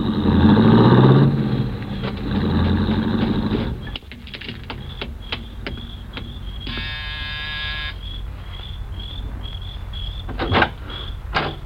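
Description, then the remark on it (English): A rented car's engine rumbles loudly in the evening and pulls away from a home on the edge of town, cutting off after a few seconds into a quiet night backdrop of chirping insects, scattered clicks and a brief buzzing tone. “drove up in a rented car. An hour later, he came out and drove off again.”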